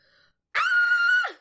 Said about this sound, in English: And then I scream, like... Because I'm terrified. Give us a scream.